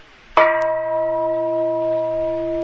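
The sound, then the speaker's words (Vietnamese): A single loud, hard strike of a bell rings out, its clear tone sustaining steadily with rich overtones and no talking over it. “Bây giờ chú cười đánh cho thầy một tiếng chuông, đánh cho thầy một tiếng chuông mạnh lên.”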